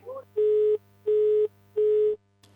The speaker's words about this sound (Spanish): Bien, allí se cortaba la comunicación con el móvil. Vamos a intentar rápidamente retomar esta comunicación